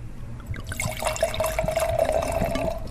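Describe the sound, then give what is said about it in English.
Wine pours steadily into a glass for about three seconds, a continuous splashing stream with a faint ringing tone that creeps upward in pitch as the glass fills. No one speaks. “Well, let's hear my favorite sound, the sound of wine going into the glass.”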